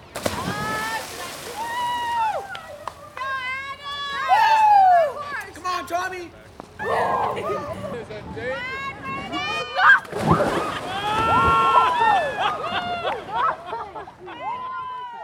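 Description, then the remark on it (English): Horses splash and wade through the flowing water of Boulder Creek as riders coax them in deeper, steady sloshing noise running throughout, while several voices call and chatter loudly. “Many of the riders skillfully coaxed their horses into the flowing water, encouraging them to wade in deeper and deeper.”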